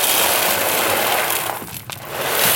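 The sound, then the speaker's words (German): A coffee machine in a small mobile café, set up among food trucks opposite the Bayreuth Festspielhaus, is being tested. It runs with a loud, steady mechanical whir and hiss, dipping briefly near the end before the grinding noise surges back up. “testet gerade die Kaffeemaschine.”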